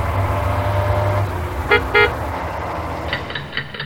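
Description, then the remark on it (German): Many buses rumble past on a busy street, with two short horn toots near the middle and fainter tonal honks or engine whines toward the end, no voices. “Oh, hier kommen viele Busse vorbei.”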